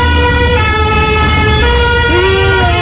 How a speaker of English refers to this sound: And we're both just falling down laughing, but trying very hard not to say anything so as not to ruin the audio quality of the French ambulance. You got it, though, and you get it going by.